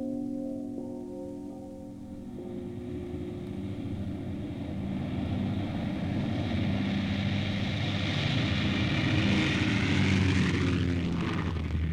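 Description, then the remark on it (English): The American propeller bomber Enola Gay roars as it takes off from Tinian on August 6th, its deep droning engines building steadily in loudness with a rising hiss of air, a continuous heavy rumble with no voices. “August 6th, the American bomber Enola Gay took off from Tinian.”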